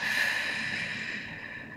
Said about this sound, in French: Prenez une profonde inspiration par le nez en gonflant le ventre et la poitrine. Expirez doucement par la bouche.